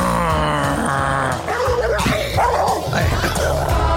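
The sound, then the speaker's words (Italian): A dog barks and yips loudly, its sharp calls mixed with whiny, drawn-out tones that carry on steadily for several seconds with no talking. “Ma che cane c'ho io?”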